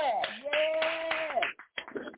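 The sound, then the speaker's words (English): An audience at a church service claps to give God praise, in a steady, even rhythm, about four or five sharp claps per second, over a loud, sustained sung note that bends upward and then fades, leaving a few scattered claps. “Now clap your hands wherever you at and give God some praise.”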